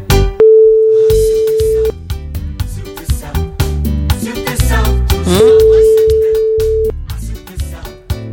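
A phone's ringback tone sounds twice, each a steady mid-pitched hum lasting about a second and a half, separated by a pause, over busy upbeat music playing throughout.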